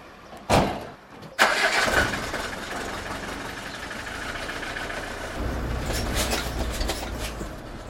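A small delivery truck's engine in a garage cranks and catches with a sharp burst, then settles into a steady, rumbling idle that swells slightly louder toward the end, with no voices.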